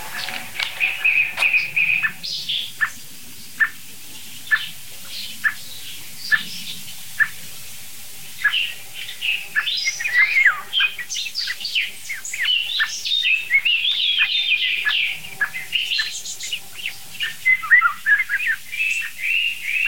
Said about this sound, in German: Hört euch diese merkwürdige Singdrossel an. Irgendwie klingt die doch special.